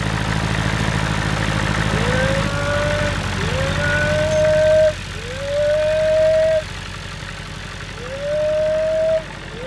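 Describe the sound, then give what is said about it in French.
A cow moos four times in a slow, even series of drawn-out rising calls as the cows arrive, over a steady low rumble like an idling engine. “pour pouvoir donner à ma vache”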